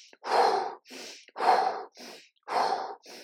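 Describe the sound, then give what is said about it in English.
Three forceful, drawn-out exhalations alternate with shorter, sharp inhalations in a steady rhythm, loud, like someone demonstrating a vigorous breathing exercise done with movement. No talking. “So breath with movement Lion's breath, warrior breath, move your body, breathe.”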